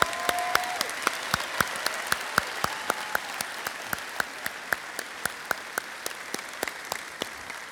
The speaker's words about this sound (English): Let's give all the moms, can we have all the moms stand up? Let's give them a big round of applause this morning. Amen, amen.